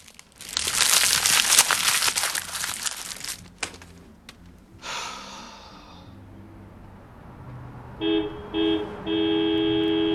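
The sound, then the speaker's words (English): After a burst of crinkly paper crumpling as an empty money envelope is crushed, a car horn toots twice in quick short blasts, then holds a longer, steady honk with a bright, buzzy tone. No one speaks. “He crushes the empty money envelope, but then hears a car horn tooting.”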